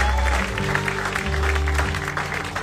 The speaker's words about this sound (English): Let's give an outrageous applause to the 12 apostles. Hallelujah. Woo-hoo.